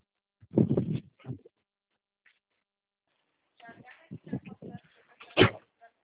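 A door blown by the wind bangs shut with a single loud, sharp thud near the end, after a rattling burst early on and some muffled talking and shuffling in between.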